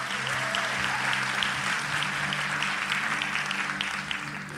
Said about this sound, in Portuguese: Então tá, uma salva de palmas para os meus atores.